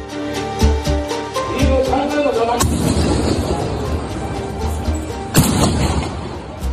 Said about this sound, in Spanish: Este es el momento terrible en el que Shinzo Abe era alcanzado por dos disparos. Shinzo Abe, ex primer ministro japonés, que ha fallecido prácticamente al instante.